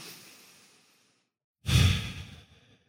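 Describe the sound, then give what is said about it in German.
A soft, airy breath drawn in and fading away, a brief pause, then a fuller, louder exhale like a deep sigh, with no talking, during a meditation breathing exercise counting in for four and out for four. “Ja, den Atem zählen, einatmen für 4, ausatmen für 4.”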